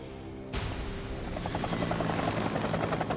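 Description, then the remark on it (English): A helicopter roars in suddenly after a half-second of low hum, its rotor blades thumping in a rapid, steady chop that stays loud as it appears directly overhead, with Larry Moss leaning out of the cabin, then swoops away. “A helicopter appears overhead.”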